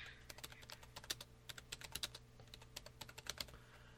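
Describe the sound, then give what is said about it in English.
Rapid, uneven keystrokes clatter on a computer keyboard, a steady stream of crisp clicks over a low background hum, with no voices. “I feel bad just typing in it.”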